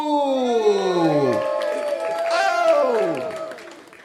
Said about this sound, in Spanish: Gente, fuerte aplauso